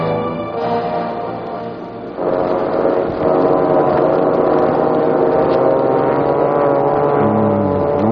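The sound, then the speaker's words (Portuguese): A motor launch's engine drones steadily and loudly on the way to Ilha da Rosca, a thick harmonic hum that swells slightly after a couple of seconds and keeps churning evenly, with no talking. “Josão, reúna o pessoal na lancha. Vamos imediatamente para a Ilha da Rosca”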